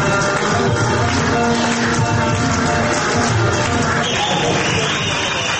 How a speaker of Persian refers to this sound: دوستان تشویق خوب بشنوین